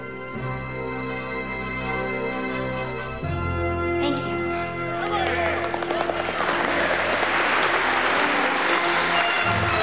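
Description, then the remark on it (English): Applause from a crowd of politicians swells in after a few seconds of music, growing into loud, dense clapping that keeps going to the end with a few faint voices mixed in. “Elle looks around the applauding politicians”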